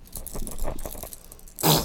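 A bunch of keys jangles as it is shaken for a baby in quick, repeated bursts, ending in a louder, brighter clatter of metal.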